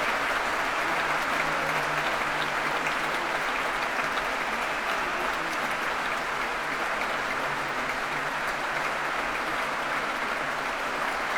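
Sustained, dense applause from a large Proms audience for an orchestra brought back on stage by conductor Donald Runicles after the performance, a steady roar of clapping hands that holds at an even, loud level throughout with no speech over it.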